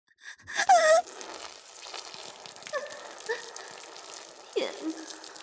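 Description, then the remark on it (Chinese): Urine splashes and patters steadily onto a hard floor on a wedding ceremony stage, spraying everywhere, with a short breathy vocal gasp at the start and another faint one near the end. “还在尿，还尿得那么急，又酸又热的小便噼里啪啦的喷在地上，飞溅的到处都是，声音还那么大，尿尿的样子和声音全都被人见到了。”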